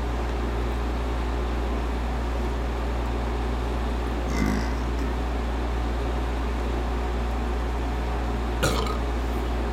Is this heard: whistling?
no